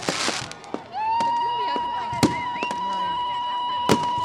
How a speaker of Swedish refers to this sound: På lastbilsflak, motorhuvar och till fots tar sig människor mot torget där fyrverkerierna färgar natthimlen.